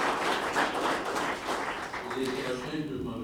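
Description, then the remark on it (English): A crowd at a TC Transcontinental company meeting, including members of the executive committee, claps steadily in a dense, continuous burst of applause. Near the end, a voice starts to come through as the clapping carries on underneath. “I think most of them are here, and you can give yourselves a hand of applause.”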